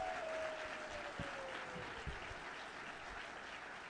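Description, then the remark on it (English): A crowd in a church claps steadily for the people who put on a drama, a sustained burst of applause, dense and continuous throughout, with a faint descending tone sliding beneath the clapping near the start. “On today, you're going to see a lot of people doing a lot of different things, and could you just applaud all the people that put in the hard work and time to do what we do?”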